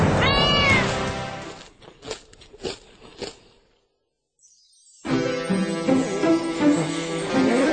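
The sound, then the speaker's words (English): A loud cat meow opens, followed by several crisp crunching bites, a short silence, and then a dense, steady stretch of fuller sound. No one speaks. “Every night, Ruff Ruff slept in his kennels, while the big, bad cat stole his tea.”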